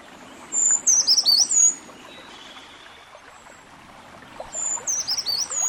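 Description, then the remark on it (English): A brown creeper sings two high, thin, tumbling song phrases, one near the start and one near the end, clear against a quiet, softly hissing woodland background. “Listen for their song, or stand very still and watch carefully for movement along the trunks of big trees.”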